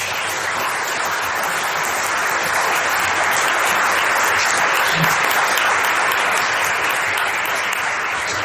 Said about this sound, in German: Ah, ja, ich kann da nochmal einen Applaus geben.